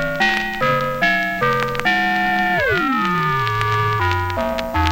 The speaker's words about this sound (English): The ring modulator produces very rich, complicated sounds by combining two simple raw signals in a special distortion circuit.